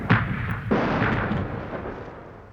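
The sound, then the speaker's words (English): Heavy battlefield gunfire and artillery from British forces' triangulated gunfire: two sharp, booming blasts close together, each followed by a long rumbling roar that slowly fades, with no voices. “There, he cowered in the water as men jumped overhead and were turned into misty meat by the British forces' triangulated gunfire.”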